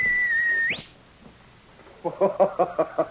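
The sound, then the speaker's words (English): A Mountie gives a sharp human whistle to call his dog, King. It holds a steady pitch for under a second, then flicks upward and cuts off. After a pause, a quick run of loud, rhythmic voiced bursts follows. “Even as Sergeant Preston whistled for King, the sharp whistle that had always been a signal between the two of them, the Mountie wondered and hoped.”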